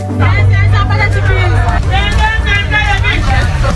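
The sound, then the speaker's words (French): Dense crowd chatter fills the busy Bona Moussadi market, several voices overlapping, with women vendors calling out to customers and street hawkers, over a steady low rumble of traffic, loud and continuous throughout. “À peine arrivé au marché, entre les cris des vendeuses qui interpellent les clients, les vendeurs à la sauvette et les odeurs des épices”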